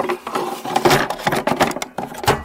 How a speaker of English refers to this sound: So I'll tell you what that is. So that is the sound... of a Nintendo cartridge going into a Nintendo.